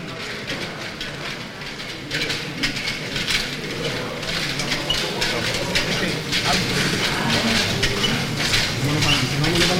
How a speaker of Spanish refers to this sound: Se levanta el paso en el interior de la capilla. Mamá …, que le habla a sus costaleros. Poco a poco. Así suena el interior de la capilla de los marineros ahora mismo.